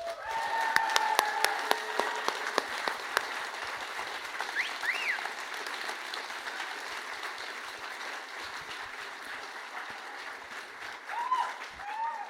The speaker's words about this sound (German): Gut, dann erstmal natürlich ein ganz, ganz, ganz, ganz herzliches Dankeschön an euch, die hier live dabei seid. Ich gebe euch jetzt Applaus. Ihr dürft gerne mit applaudieren, ihr dürft euch applaudieren.